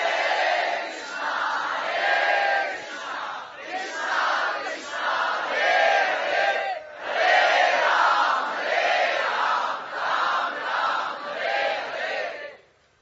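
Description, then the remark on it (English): A group of voices chants the holy names of God together in sustained, rhythmic phrases, loud and steady, with brief pauses between repeated lines before fading out at the end. “With this hope and prayer, we chant the holy names.”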